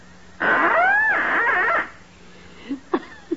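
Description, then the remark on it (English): A duck call is blown to sound the mating call of a female mallard: one long, loud, wavering honk that rises and bends in pitch like an elk's bellow, followed by a few short, faint squeaks. “I take this trusty little duck call, place it to my lips, and gently and sweetly, I sound the plaintive mating call of a lovesick lady mallard.”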